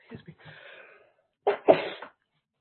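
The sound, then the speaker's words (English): A single loud, sharp sneeze bursts out after a moment of soft breathy rustling, with a quick intake of breath leading into it, during an Ulster County transit committee meeting. “Bless you.”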